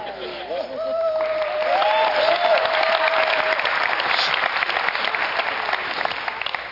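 An audience at an evening camp gathering breaks into steady applause, requested by the speaker, that swells quickly and holds at a loud, dense level, with a few faint cheers or whoops rising over the clapping early on.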